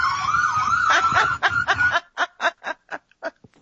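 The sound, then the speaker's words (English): A steady, slowly rising siren wail sounds for about two seconds over background noise, then gives way to a series of short, choppy bursts of laughter. “And hold on, there's an alarm.”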